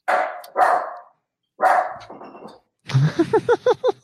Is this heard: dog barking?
yes